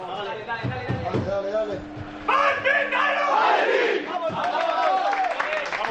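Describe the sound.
A group of male voices shouts together in a loud, rhythmic chant, rising into a burst of full-throated yelling as a football team huddles in a circle after reciting the Lord's Prayer and roars its war cry.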